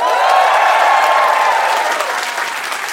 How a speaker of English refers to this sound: So just to meet everyone as a crowd, give me a round of applause if you've ever heard our show before.